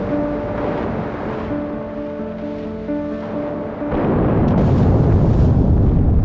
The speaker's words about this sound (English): HMS Batard and three other warships are on the scene by 10 a.m. and spend the next 10 hours hunting and depth charging the U-boat.